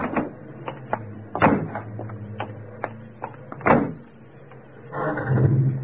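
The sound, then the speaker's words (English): Car doors thud shut a couple of times amid scattered clicks, clunks and rattling as people climb into a car and throw their gear in the back, with a low steady rumble underneath and a rising burst of motion near the end. “This is the car. Oh. Get in on this side and throw your gear in the back.”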